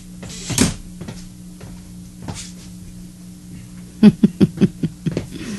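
The door of a doctor's consulting office swings and shuts with a solid thud, followed by a quieter knock and then a quick run of soft, evenly spaced taps like footsteps, against a low steady hum.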